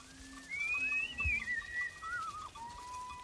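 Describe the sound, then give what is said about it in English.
A Maasai man whistles to call cattle out to graze, a long sliding whistle that rises and falls in a few wavering phrases, fairly clear over a faint outdoor background with a brief low thump. “The sounds of Maasai men whistling to their cattle to call them out to graze.”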